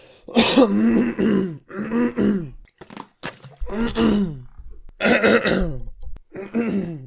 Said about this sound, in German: Oh, ich krieg nicht diesen satisfying Räusperer hin, Alter. Ja. Scheiße. Ach so, ja, der wohl richtig, der Schleim sich löst von unten, ne?